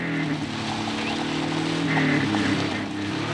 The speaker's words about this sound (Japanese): 車はゆっくり発進させるんだ。